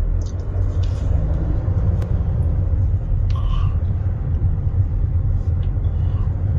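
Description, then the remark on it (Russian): A steady, heavy low rumble of cars slowly driving over a bridge toward Crimea on a single lane, let through two or three at a time to limit the load. The rumble is continuous, with a few faint clanks and knocks on top and no voices. “Человек стоит, пускает по 2-3 машины, чтобы не было большой нагрузки.”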